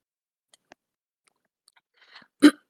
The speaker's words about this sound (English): Pardon me, my voice. Sorry about that. I'm going to have a sip of tea.